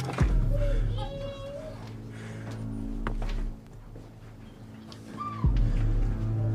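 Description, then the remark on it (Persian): Children's voices in a house chatter and call out in the background, high-pitched, with a low steady hum and an occasional soft thump, no clear words standing out. “سمت صدای بچه ها میره.”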